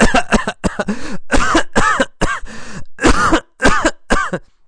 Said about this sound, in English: He breathed in a lot of mosquito spray. How much did he breathe in? A lot. Who breathed in a lot? Will Smith breathed in a lot of the chemical. He coughed and coughed and coughed.